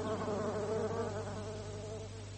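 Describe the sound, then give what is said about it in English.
A bee buzzes around a rose in a steady, droning hum that wavers slightly in pitch and fades a little toward the end, with no voices present. “Such a beautiful rose, that one. Such delicate blooms. The bee knows what is good for him.”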